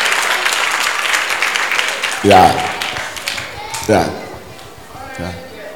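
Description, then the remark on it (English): An audience claps for the speaker's wife in sustained, dense applause, while a man's voice cuts in with short bursts of speech over the clapping. “So I married this girl. Clap for her.”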